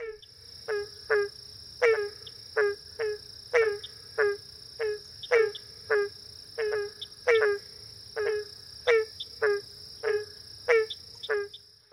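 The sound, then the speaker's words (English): A barking tree frog, a 2 to 3 inch long tree frog of the genus Hyla, gives a long series of short, hollow, bark-like calls, roughly one or two each second, over a steady high-pitched chorus of insects in the background. “If you guessed the barking tree frog, you're right.”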